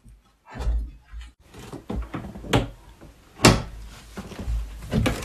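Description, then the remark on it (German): A sticking door is forced open, with a series of scraping rubs and several sharp knocks and thumps spread irregularly over a few seconds. “Geht die Tür auf? Ja, geht auf.”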